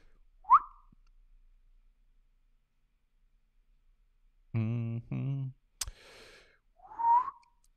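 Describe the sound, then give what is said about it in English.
A person whistles in a few short, breathy bursts: a quick chirp, then a pair of wavering held notes, a sharp click, and a final rising-falling whistle, moderately loud with silence between. “I can't stop whistling.”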